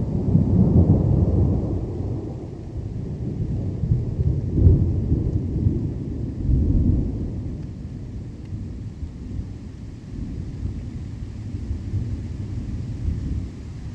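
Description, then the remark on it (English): A thunderstorm from an album, with deep, rolling thunder rumbling continuously, swelling in waves around the middle, over a steady wash of rain; no voices. “This is from the ZBS CD, ….”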